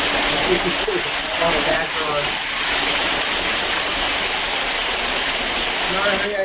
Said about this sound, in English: I'm out by the waterfall. All right. Oh. It sounds like a waterfall.